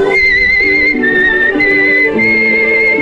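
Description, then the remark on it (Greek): A man tiptoeing out of a young woman's house whistles a tune, clear, the melody shifting pitch in long held notes over steady instrumental music playing underneath throughout. “Ένας άντρας που βγαίνει νυχοπατώντας από το σπίτι μιας νέας σφυρίζοντας.”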